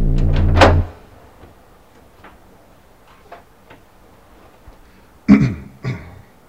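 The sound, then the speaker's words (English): An office door opens with a loud rattling creak, followed by a few faint clicks, then two sharp knocks of the door shutting. “Turn left out of the office door.”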